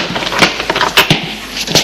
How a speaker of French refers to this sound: Il sort de la chambre, elle le suit. Ouvre machinalement une porte.